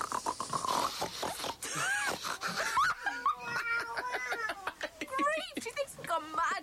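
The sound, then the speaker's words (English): A person imitates a pig in a contest to see who can grunt the loudest, a rapid series of loud, rough grunts and snorts, mixed with squeaky, high-pitched voiced bursts that rise and fall in pitch. “I bet you can't grunt as loud as I can.”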